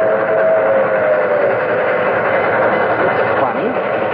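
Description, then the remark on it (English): An old steam train with white cars rumbles past, a dense, steady roar of wheels and engine with a whistle-like tone sounding over it, continuous and loud throughout. “There's a train coming. It's an old steam train.”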